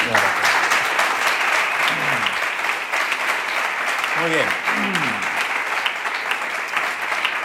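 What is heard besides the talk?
audience applause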